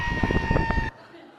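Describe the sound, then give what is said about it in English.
A sheep being pulled out of a trench by a shepherd lets out a loud, harsh, sustained scream for almost a second, a strained, human-like yell that cuts off abruptly into near silence. “Now the best part, if you can hear it, that is a screaming sheep or a yelling.”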